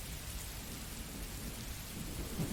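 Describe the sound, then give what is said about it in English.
Heavy rain pours down in a steady, dense hiss, with a low rumbling undertone beneath it. No one speaks; the downpour fills the whole stretch evenly from start to finish. “Now quit cursing out at the rain.”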